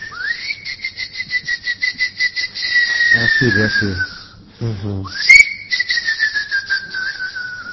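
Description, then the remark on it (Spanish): A man whistles two long, steady tones to call whales, each swooping up sharply and then sliding slowly downward in pitch, with a brief spoken phrase between them. “Él le chiflaba a las ballenas.”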